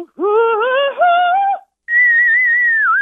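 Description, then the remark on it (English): A singer shows their vocal range: the voice slides upward in a rich sung tone, breaks off, then returns as a thin, piercing whistle-register note held for over a second with a slight wobble and a dip at the end. “Yeah, that's the whistle tone.”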